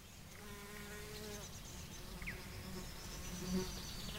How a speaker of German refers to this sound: Die Sonne wärmt bereits. Um mich herum im Garten krabbelt und flattert, zwitschert und summt der Frühling.